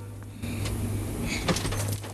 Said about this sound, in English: He inches towards it, checks the driver's dead, then yanks open the back passenger door.